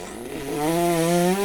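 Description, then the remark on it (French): A voice imitates a long fart, likened to an airplane taking off: one sustained, buzzy low drone that swells in loudness and creeps slightly upward in pitch, rumbling steadily without any talking. “Et ben moi, vous savez, une fois j'ai fait un prout qui a duré 10 minutes. Ça faisait un avion qui décollait.”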